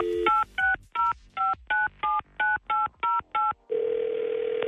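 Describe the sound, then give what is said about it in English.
A quick burst of dial tone, then ten evenly spaced beeps as a phone number is punched in to call a listener's mother on Star 99.9 radio, each a two-pitched tone, followed by a steady, lower humming line tone. No voices. “Will you stick around while we call this first mom?”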